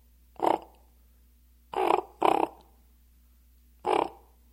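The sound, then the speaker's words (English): A territorial pair of ravens calling with four hoarse, throaty croaks: a single call, a quick double, then one more after a pause, each loud and harsh over a faint steady hum, with no talking. “And when the territory is occupied, you'll hear the territorial pair calling in the morning to let everyone know that status is quo.”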